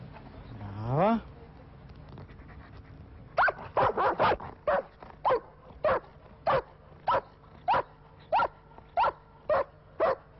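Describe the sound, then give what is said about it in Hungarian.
A Trieste firefighter's dog gives a short rising whine, then barks in a steady, evenly spaced run of about a dozen sharp, fairly loud barks. “A kutya az ember legjobb barátja, tartja a mondás”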